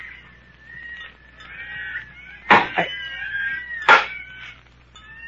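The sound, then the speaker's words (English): High, wavering animal calls sound like monkeys chattering, with two sudden louder shrieks bursting out partway through. No one speaks. “Hey, what's that? Monkeys.”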